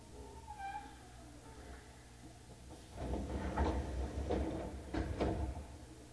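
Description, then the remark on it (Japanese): Train doors on the left side slide open at Shitennoji-mae Yuhigaoka station: a faint squeal first, then a low rumble with several hissing, thudding bursts from the door mechanism, with no talking. “四天王寺前夕日が丘、四天王寺前夕日が丘、左側の扉が開きます。”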